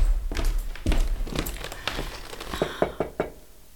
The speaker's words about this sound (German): Gleich nach der fünften Unterrichtsstunde fanden sich Hanni und Nanni vor dem Zimmer der Direktorin ein. Zaghaft klopfte Nanni an die Tür.